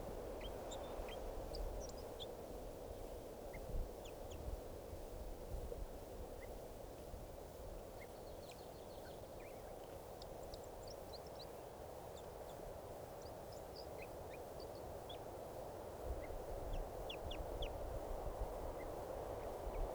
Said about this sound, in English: Looks like about 2 birds are in song. So, and one of the birds is getting some calls here.